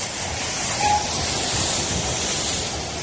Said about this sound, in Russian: С востока без опоздания прибыл Транссибирский экспресс.